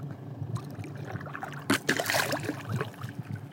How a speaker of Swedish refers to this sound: Ja, det är en liten segelbåt som puttrar lite längre bort, men annars har jag hela havet för mig själv.